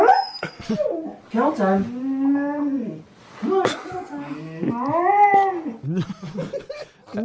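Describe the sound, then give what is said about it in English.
A big dog howls and whines in long, wavering, drawn-out wails, loud, in two extended bursts, at a house in the morning, while a person briefly speaks between them, telling it to go into its kennel. “this is me at my house every morning with our big dog.”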